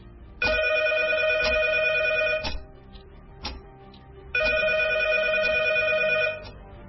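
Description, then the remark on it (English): A telephone rings loudly, two long electronic trills separated by a short pause of quieter background with a few faint clicks. No one speaks. “As the clock ticked towards Thursday's deadlines, my phone rang.”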